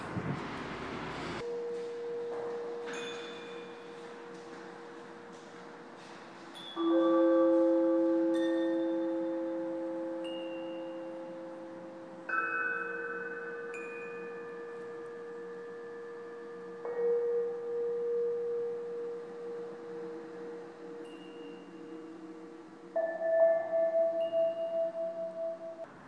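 Several bells strike one after another in a small bell room, each a loud clang that sustains into a long, humming ring, their tones overlapping and filling the resonant space with no talking.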